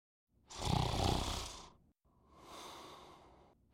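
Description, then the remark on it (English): A man snores in a small, moist, faux-wood paneled basement in Roanoke, Virginia: one loud, rasping inhale rumbles for over a second, then a softer, airy exhale follows after a brief pause, with no talking. “In a small, moist, faux-wood paneled basement in Roanoke, Virginia, a man snores.”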